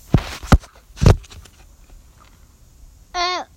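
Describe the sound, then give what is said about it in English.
Three heavy footsteps in Umland thump in an uneven rhythm, followed by a quiet pause and then a brief, high, warbling vocal sound near the end. “You smell ice cream and you hear footsteps.”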